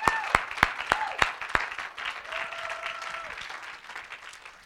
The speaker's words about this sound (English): You need to give yourself a hand. I'm going to give you a hand clap.